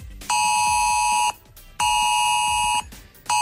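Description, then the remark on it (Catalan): A Protecció Civil emergency alert tone, sent for strong wind in the south, blares in loud, steady, piercing electronic blasts, each about a second long, separated by brief pauses. No voices are heard. “Fins ara eren 7, però Protecció Civil acaba d'enviar un altre alert al sud pel fort vent.”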